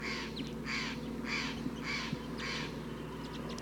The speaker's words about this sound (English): Recording, a lot of crossbills are here now. Big flock, 1, 2, 3, 4, 5, 6, 7, 8, 9, 10.